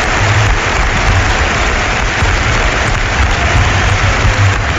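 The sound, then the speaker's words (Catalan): Steady, dense applause from the standing crowd at Camp Nou stadium, applauding league champion Atlético de Madrid, a continuous loud wash of clapping with no distinct individual claps and no voices standing out. “Aquests són els aplaudiments de la gent del Camp Nou, que dempeus esportivament aplaudeix el campió, que amb tota justícia ho celebra sobre la gespa de l'estadi.”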